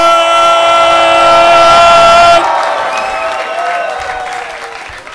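A loud, steady horn-like blare rings over a crowd of about 200 people for a couple of seconds, then gives way to applause and cheering for the host, with scattered whistles, slowly tapering off.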